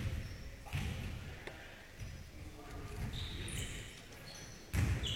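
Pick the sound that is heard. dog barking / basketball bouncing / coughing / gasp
basketball bouncing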